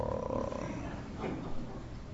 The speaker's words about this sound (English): And then all of a sudden you hear, "Roar."